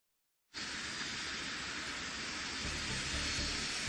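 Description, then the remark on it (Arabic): After a short silence, a loud, steady jet engine roar sweeps in suddenly and holds, with a deep rumble underneath, as a large passenger airliner takes off on a transatlantic flight. No voices are heard. “طائرة ضخمة وهي تقلع في رحلة عبر الأطلسي، 900 رحلة يوميا تربط بين القارتين الأمريكية والأوروبية.”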